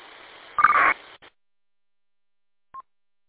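A hissy radio channel ends with a loud, buzzy data burst lasting about a third of a second, added by a BTEC UV Pro radio at the end of a transmission, then cuts to silence before a single short, faint beep. No one speaks.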